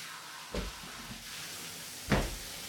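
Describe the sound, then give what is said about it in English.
A front door opens with a dull clunk, then shuts with a louder thud about a second and a half later, both heard over a steady rushing hiss. “As I climbed into the shower, I heard the front door.”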